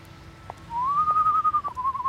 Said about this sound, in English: She didn't make it very far before she heard a whistle coming from a darkened alley.